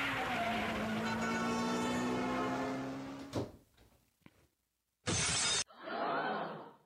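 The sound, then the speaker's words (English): A person's mock car crash: a long, wavering screech, then a sudden impact, scattered clattering debris, a sharp loud burst and a final rush of shattering glass, with no talking. “That's me approximating a car accident.”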